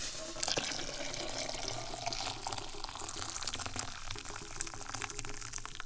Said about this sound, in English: So, we turn off the heat, and we grab the towel so we don't burn our hands on the hot pot of water. And we pour the water into the cup.